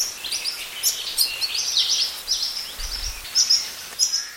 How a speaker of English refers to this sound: For the next few months, these keiki noisily follow their parents around the forest begging for food as they are learning to better forage for themselves.